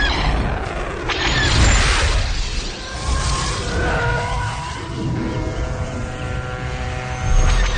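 A TIE fighter screams through an attack run on the Queen Mary, its harsh roaring whine sweeping in pitch and swelling loudly near the start and again at the end, with no voices.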